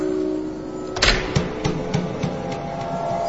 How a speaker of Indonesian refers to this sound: Tepat setelah azan maghrib, ketika itu terdengar suara pagar dibuka. Dan pintu depan pun terbuka.